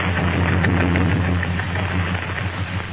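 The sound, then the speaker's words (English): An aeroplane engine drones steadily and loudly for the whole stretch, a deep humming rumble with a rough, hissing wash over it and no pauses or voices. “Look, there's another aeroplane.”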